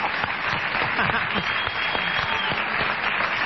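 A crowd applauds steadily for a few seconds for a birthday, a dense, even patter of many hands clapping at a fairly loud level, with faint voices mixed underneath.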